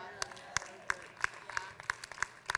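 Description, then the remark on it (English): Sparse audience clapping: roughly ten sharp, crisp claps in a steady, evenly spaced rhythm from just a few hands, with a faint murmur of voices underneath. “That wasn't a lot of claps.”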